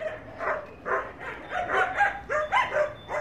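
Two dogs, Laika and Ivan, barking happily and wagging their tails as thanks for food, in a quick, uneven string of short yaps and woofs, lively, with no voices or other sounds around them.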